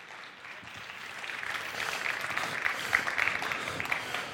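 An audience applauds steadily, a dense wash of many hands clapping that swells after the first second and stays strong, with a few brighter individual claps and cheers standing out.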